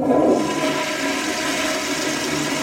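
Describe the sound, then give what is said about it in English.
A toilet flushes, opening with a loud whooshing rush of water that settles into a steady, hissing gurgle as the bowl drains and refills. No voices. “I've recorded the sound of a toilet flushing for a story about wastewater testing, chanting outside of protests, illegal logging in the Amazon rainforest.”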